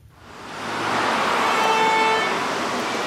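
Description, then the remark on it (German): Steady roar of busy road traffic on a four-lane main road, Ollenhauer Straße in Berlin-Reinickendorf, swells in, with a car horn honking briefly in the middle above the continuous rush of passing vehicles. “Die Ollenhauer Straße in Berlin-Reinickendorf. Eine vierspurige Hauptstraße mit nur wenigen Metern Radweg.”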